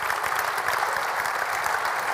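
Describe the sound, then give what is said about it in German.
Steady, dense applause from an audience at an awards ceremony for the football club CVR Pforzheim from Baden-Württemberg, a continuous wash of many hands clapping at once, fairly loud and sustained throughout with no voices standing out. “Viel Applaus bekam der CVR Pforzheim aus Baden-Württemberg.”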